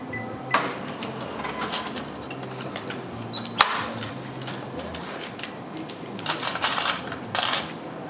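A cash register worked by a volunteer clatters at the Marché Saint-Pierre in Ville-Saint-Pierre at 2 pm on a Sunday: sharp mechanical clicks and a bright ring near the start and middle, then a burst of rattling keys and drawer noise toward the end, over steady background murmur.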